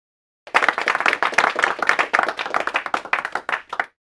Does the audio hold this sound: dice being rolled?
no